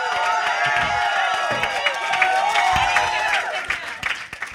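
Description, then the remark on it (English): A crowd breaks into steady, loud applause mixed with cheers and whoops, the dense clapping holding for several seconds before thinning out slightly at the end. “Ladies and gentlemen, can I please have a round of applause for our shot slut”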